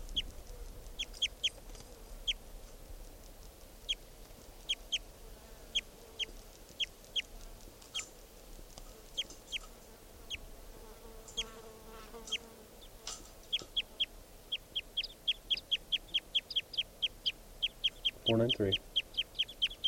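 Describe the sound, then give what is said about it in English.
A bird, recorded as bird 493, calls with short, high chirps repeated steadily throughout, speeding into a faster run of notes near the end, over a low buzzing background and one brief louder thump. “This is bird 493 again.”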